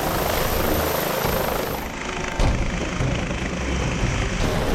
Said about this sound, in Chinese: 呼号为费尔法克斯一号 （Fairfax One） 的警察直升机开始升空。